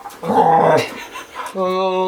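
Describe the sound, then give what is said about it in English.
A dog growls and grumbles loudly for about half a second, pauses briefly, then lets out a drawn-out, steady whining howl that continues to the end. “Sounds like fucking Chewbacca.”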